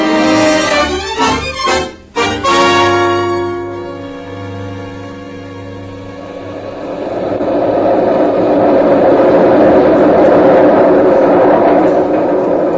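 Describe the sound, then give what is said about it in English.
A new elevated railway train in New York rumbles past above the street, starting with a few sharp clanks and a tonal whine before settling into a steady, loud roar of wheels and machinery that builds toward the end. “That's the new elevated railway train, Julia.”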